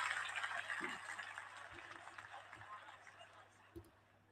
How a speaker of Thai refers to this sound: เมื่อกี้เทน้ำ